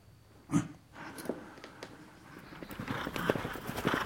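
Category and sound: animal, horse hooves clip-clopping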